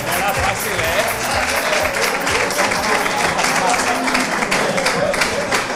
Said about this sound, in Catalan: Bé, un aplaudiment, no, per ell.